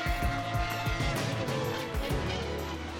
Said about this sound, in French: Et oui, évidemment, avec des bruits de Formule 1, des bruits de voitures extraordinaires, peut-être tirés de ce documentaire que je recommande sur Canal.